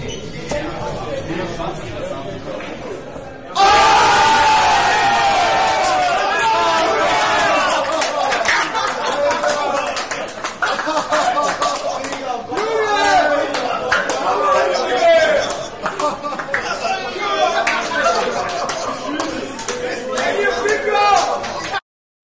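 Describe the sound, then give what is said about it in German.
A crowd at a darts match murmurs, then suddenly bursts into loud, sustained cheering and whooping as a perfect nine-dart finish is completed with the last dart in double twelve, roaring for nearly twenty seconds before cutting off. “Aber ich blende euch trotzdem auch jetzt mal hier in Sound ein, wie der Jubel war in dem Augenblick, als dann der letzte Pfeil in der Doppel-Zwölfer und der Neuner perfekt war.”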